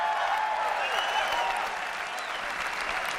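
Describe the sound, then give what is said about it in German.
A large audience applauds steadily for about three seconds as company chief Steve Jobs presents the iPhone in 2007, a dense, even wash of clapping that holds at a constant level without any voices standing out. “Am Ende präsentierte Firmenchef Steve Jobs 2007 unter weltweitem Beifall das iPhone.”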